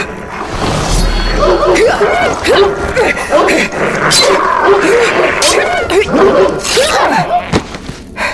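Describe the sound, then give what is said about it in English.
Several dogs snarl, yelp and whimper in a frantic scuffle as they are fought and killed with a sword in a corridor, their overlapping cries rising and falling continuously, with occasional sharp thuds and crashes cutting through. “I hate killing dogs.”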